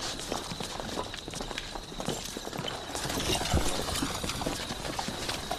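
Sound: horses' hooves clip-clopping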